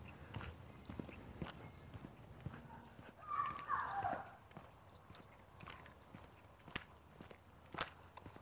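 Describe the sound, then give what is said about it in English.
Steady footsteps on a walk outdoors, a regular series of soft, dull thuds at an even pace, with a brief higher-pitched squeak or chirp midway and no one talking. “But I'm out, I'm walking.”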